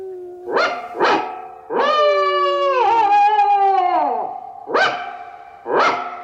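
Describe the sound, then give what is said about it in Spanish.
A small Scottish terrier, out of its kennel in a house's yard in a city, barks sharply twice, lets out a long wavering night howl that sags in pitch, then barks twice more as an alarm, loud with no other sounds. “Ahora nos toca a los perros. Usemos el aullido nocturno. ¡Yo daré la alarma!”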